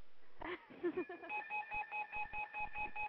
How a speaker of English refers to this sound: Oh, I'm getting a call on my other phone.